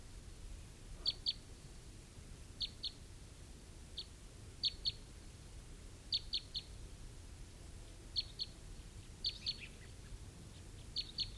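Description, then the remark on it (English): Repeated short, high-pitched chip calls from crossbills, often in quick pairs or triplets, sounding at irregular intervals over a low, steady rumble of background noise. “I think I hear some crossbills.”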